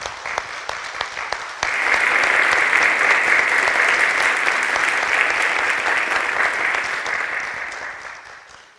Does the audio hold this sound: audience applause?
yes